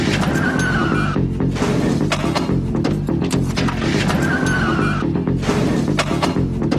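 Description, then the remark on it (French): A car brakes hard with a shrill tire screech, heard twice a few seconds apart, loud over a steady dense rumble of engine noise, in a music track edited rhythmically from film excerpts. “T'entends là le coup de frein de la voiture?”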